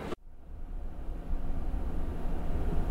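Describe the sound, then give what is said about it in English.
A passenger train pulls away from Albany heading north, heard from inside the train car as a steady low rumble and mechanical hum that slowly builds in strength. No one speaks. “Well, picking up our journey a few hours later, we're just leaving Albany now, heading to points north.”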